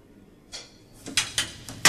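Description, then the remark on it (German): Several sharp bangs, like doors slamming, land at uneven intervals, the last one loudest. The impacts sound crisp, with no talking around them. “Dann knallen die Türen und Messer und Gabel.”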